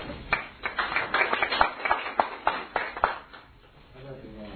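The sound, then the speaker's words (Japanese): A group of people at a meeting applauds to approve the first agenda item, in a dense patter of claps lasting about three and a half seconds, then the clapping dies away into quiet murmuring. “なければ、この第一号事案について賛同される方は、拍手をお願いします。”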